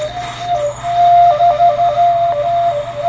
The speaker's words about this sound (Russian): Ну, они по-разному звучат, да. Этот не очень удачный свисток. Так. Но ведь тоже свисток надо уметь делать.